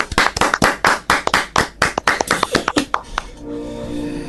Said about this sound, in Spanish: Efectivamente, nos ha presentado la Switch 2 Nintendo. ¡Un aplauso!